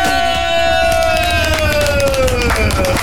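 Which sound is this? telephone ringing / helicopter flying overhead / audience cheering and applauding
audience cheering and applauding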